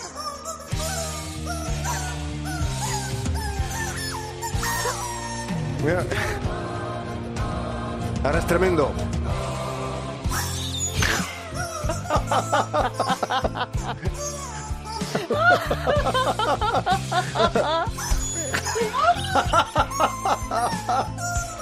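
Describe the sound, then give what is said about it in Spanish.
A squeaky chicken toy, played by its owner, honks out a wobbly, off-key melody in a long run of shrill, rising and falling squeals, with a few spoken words and some laughter mixed in. “Advierto, oyentes, el dueño del pollo le pone voluntad, desafina, pero tened en cuenta que es solo un pollo.”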